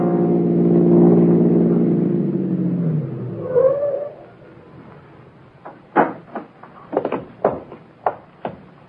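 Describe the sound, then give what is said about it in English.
A car engine hums steadily, then drops in pitch and fades as the vehicle pulls away, followed by a series of sharp clicks and knocks. “Mike, come along. I don't want that car to get out of our sight.”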